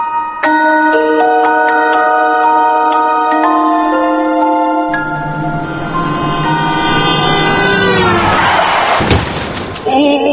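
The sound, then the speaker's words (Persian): A loud car horn blares continuously, its pitch shifting partway through, then a sudden heavy crash of impact and crunching metal hits near the end while the horn keeps sounding: a car rams into another car from behind, crumpling it. “تصادف شد، یعنی ما از پشت کوبیدیم به این بنده خدا، ماشینش جمع شد، 6 نفرم مردن.”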